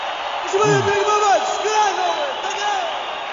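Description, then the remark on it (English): A crowd applauds and cheers on the Up All Night radio show, a dense wash of clapping layered with rising and falling whoops and shouts from several voices, steady and fairly loud throughout. “Got to go with the applause there, too.”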